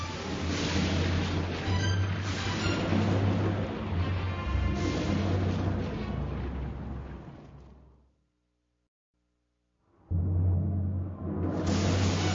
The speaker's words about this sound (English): Lightning flashes all around, and thunder crashes loudly. Thunder crashes loudly, and the rain begins to fall.